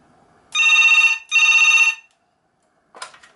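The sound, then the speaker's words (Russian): Two loud bursts of a second telephone ringing, a buzzy double ring, after number 17 is dialed on another phone, followed by silence and then a short clatter as the handset is picked up to answer. “Это, кстати, звонит второй телефон.”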